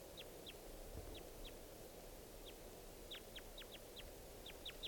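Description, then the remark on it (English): Wild birds calling in the treetops, a call the speaker takes to be type 2: a string of short, high, downward-sweeping chirps, scattered irregularly and bunching up toward the end, over a steady low rumble of background noise. No voices. “Actually, I hear more birds around.”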